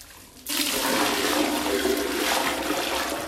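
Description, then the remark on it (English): After a brief quiet moment, a bucket of used bathwater from a tub is poured into a toilet bowl in Harare, Zimbabwe, where the city water supply has not been working, making a loud, steady splashing rush that continues without letup. No one speaks. “uses a bucket to transfer water she used to bath from her tub to her toilet.”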